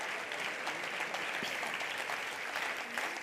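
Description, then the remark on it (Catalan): Loud, sustained applause from a crowd for the team of the film Barcelona 1714, before its screening, fills the whole clip, a dense steady clatter of many hands clapping with a few faint voices mixed in. “Doncs fem un fort aplaudiment per aquest mega equipàs de Barcelona 1714.”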